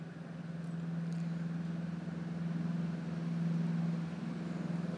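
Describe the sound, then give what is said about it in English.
A steady, continuous rumble of road traffic fills the background, a low droning hum that swells slightly midway, with no voices present. “It's a bit noisy with the traffic, but you can kind of get used to that.”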